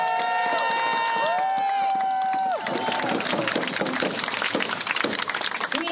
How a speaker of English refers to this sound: As you can see from those standing, we've got the mayor of Hoquiam. Let's recognize her and give her a round of applause for joining us today.